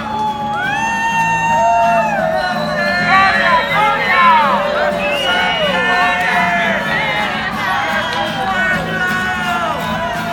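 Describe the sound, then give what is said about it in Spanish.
A large crowd at a march shouts and cheers continuously, many overlapping voices whooping and calling out at a loud, steady level, with a dense hubbub of babble underneath throughout. “Que se oiga bien desde el principio, había un griterío fabuloso.”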